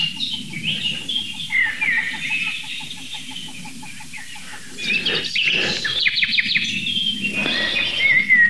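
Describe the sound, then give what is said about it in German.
Rhythmic, steady wingbeats of flying ducks pulse through the first half over a backdrop of songbirds chirping and trilling, followed by a louder stretch of birdsong. “Ich würde sagen, das waren Enten.”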